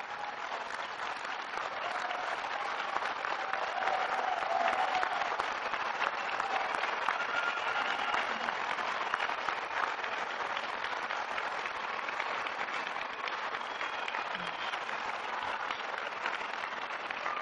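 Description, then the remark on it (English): A large crowd at a graduation applauds steadily for over fifteen seconds, the standing graduates clapping for the people who supported them in their studies; a dense, even wash of clapping that holds a constant loudness throughout with no voices rising above it. “Now you stay up, you have a great cheering section, but I also want you, all the graduates, to give a big round of applause to all those people who have supported you.”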